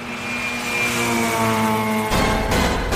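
A big monster truck engine rumbles with a steady, droning growl, then surges into a loud, roaring rev for the final second, with no voices.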